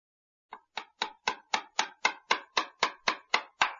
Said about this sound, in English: First, find a hammer and some nails. Then, put the chair on the floor. Now, hammer the nails in the chair.